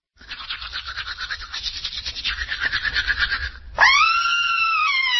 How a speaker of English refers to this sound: You just heard someone seeing pink in her sink after brushing. She's screaming because she knows bleeding gums can mean gingivitis, and that can lead to tooth loss, gum surgery, and worse.